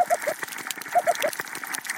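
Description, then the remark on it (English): Short rising whoops from coral reef fish come in two quick bursts of three, carried underwater over a steady crackle of thousands of snapping shrimp clicking their claws. The calls are moderately loud. “Others make whooping sounds.”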